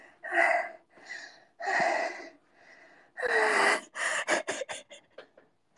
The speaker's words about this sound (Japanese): 朝からはぁはぁ言ってて、フラチな女で本当にすみません。